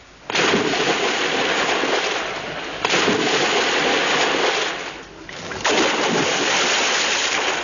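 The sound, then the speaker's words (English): Three loud splashes into water, one after another, each a long noisy surge of churning spray that slowly settles before the next hits. No one speaks. “The third splash is, of course, Max Geldray.”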